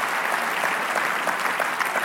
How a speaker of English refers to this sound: Clap your hands for yourselves if you're a part of ELC 2023.